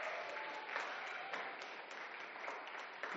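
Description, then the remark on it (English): A room full of people applauding together to thank a man who worked to get the building ready, a steady, dense patter of many hands clapping at once, sustained evenly throughout with no voices standing out. “Clap loud in case he's downstairs.”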